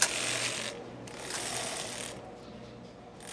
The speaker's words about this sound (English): They're these sort of very heavy, very clunky, very low-tech knitting machines. It looks a little bit like an electric keyboard, only with needles instead of keys.